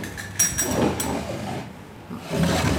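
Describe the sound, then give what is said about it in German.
Small wooden drawers of a traditional pharmacy cabinet over 100 years old, once used to store medicine and now an exhibit, scrape and rumble as they slide open and shut, with a brief squeak at the start. Two hollow movements are separated by a short pause, and no one speaks. “Es gab zwar noch einen mehr als 100 Jahre alten traditionellen Apothekerschrank als Ausstellungsstück mit so hölzernen kleinen Schubladen, wo früher die Medizin aufbewahrt wurde.”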